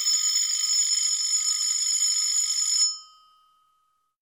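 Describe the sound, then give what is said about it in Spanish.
A telephone rings for a call between two friends, one living in Chicago, Illinois: a single long, bright metallic bell tone lasting about three seconds, then cuts off and leaves a brief fading hum. No one speaks. “Hoy es sábado y Lola Batini conversa por teléfono con Celia, su amiga que vive en Chicago, Illinois.”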